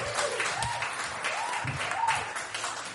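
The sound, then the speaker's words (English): A comedy show audience applauds steadily as a comedian comes back to the stage, a dense, even wash of many hands clapping with no break, with a few faint whoops and shouts rising through it. “And keep that applause going as he comes back to the stage.”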